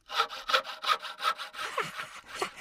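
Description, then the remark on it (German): A panel handsaw (Fuchsschwanz) cuts through wood in quick, steady back-and-forth strokes, fairly loud, with the rhythm turning slightly rougher and uneven toward the end. “Ja, also der Fuchsschwanz ist das Lieblingswerkzeug des Kobolds und ihr werdet staunen, was der Kobold in unserem nächsten Rätsel mit dieser Säge alles anstellt.”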